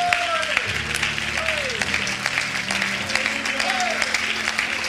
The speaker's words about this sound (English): Give the Lord a hand clap praise, for He is worthy.